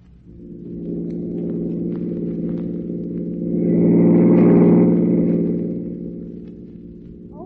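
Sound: car engine accelerating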